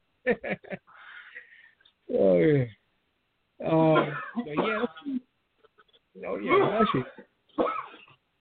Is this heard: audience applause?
no